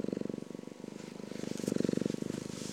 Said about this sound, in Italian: Ecco, non so se la sentite, la mia gatta che fa le fusa.